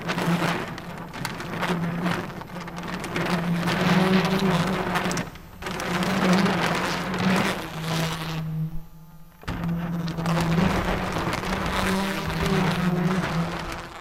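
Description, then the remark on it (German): Several electric toothbrushes, played as musical instruments by musicians of the ensemble MAM (Manufaktur für aktuelle Musik) in Michael Meierhof's "8 Easy Pieces", buzz together in sustained, overlapping drones around a low pitch, shifting slightly up and down like held notes, with a brief drop to near silence partway through. “Wenn sie mit ihrem Ensemble MAM, Manufaktur für aktuelle Musik, auf der Bühne steht, kann es schon mal passieren, dass die MusikerInnen mit elektrischen Zahnbürsten Musik machen, wie hier in den 8 Easy Pieces von Michael Meierhof.”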